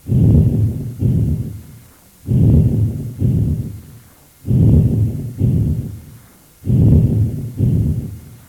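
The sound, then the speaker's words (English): Vesicular breath sounds heard through a stethoscope over normal lung tissue: low-pitched and rustling, four steady breath cycles in which each inhalation, longer than the exhalation, runs straight into the exhalation with no gap, with brief pauses between cycles and no voices. “Note that they are low-pitched rustling sounds with inspiration longer than expiration and no gap between inspiration and expiration.”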